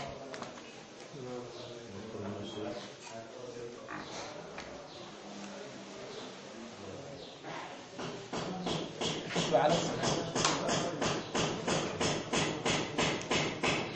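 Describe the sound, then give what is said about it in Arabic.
Chalk taps and clicks against a blackboard while writing, in a quick, steady series of sharp knocks, growing louder in the second half, with a voice talking during the first half. “أكتب على السبورة حتى يكون واضح.”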